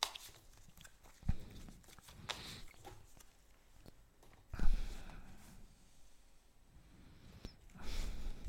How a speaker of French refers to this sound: Allez, tarot de Marseille, je mélange les arcanes.